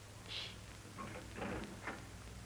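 A door is quietly opened: a few short clicks and rattles of the latch and handle, then a brief shuffling movement, soft over a low steady hum, with no talking.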